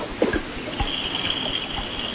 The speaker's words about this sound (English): Sounds like it's some sort of water. Is it the washing machine? That was the washing machine. I went all the way to the basement.